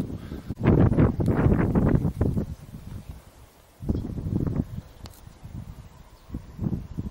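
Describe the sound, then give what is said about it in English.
Gusty wind buffets the microphone in loud, rumbling bursts outdoors at an old castle, strongest in the first couple of seconds, easing off, then surging again in shorter blasts. “It's too windy, probably.”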